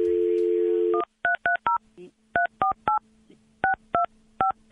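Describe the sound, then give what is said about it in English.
A steady dial tone cuts off as the Q104 radio hosts place a phone call. About eleven short touch-tone beeps follow in quick, uneven bursts, each a crisp two-note electronic chirp at moderate loudness, with no talking. “Like, we're going to try to fix that right now, but we got to make a phone call to do it. So hang on. Let me get the phone thing going here.”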